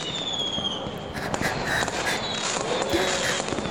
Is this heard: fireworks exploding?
yes